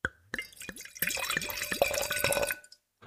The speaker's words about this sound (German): Soll ich das jetzt mal eingießen? Wäre schön, wenn du magst, gerne auch am Mikro eingießen, dann hört man noch ein bisschen das Gluckern. Ist das nah genug am Mikro? Nee, richtig das Glas an, vorne.